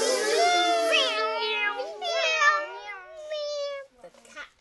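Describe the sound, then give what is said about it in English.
A human voice imitates a cat meowing, drawn-out, wavering meows in quick succession, fairly loud, ending with a short breathy trailing sound. “Meow. Meow. Meow.”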